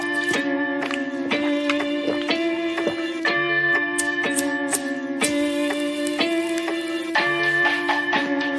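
Dark, brooding melody with horror-film-style bell tones struck at a steady pace, roughly once a second, ringing over sustained low notes at the opening of a 2018 song. Ominous and loud, with no voices.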